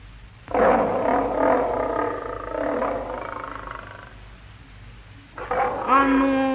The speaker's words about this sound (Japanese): お師匠様、ライオンは何と申したのでございますか？ うん、もう戸口の節穴から子供が一人この部屋を好き見しているから、そいつを食べてくるとか言っておったよ。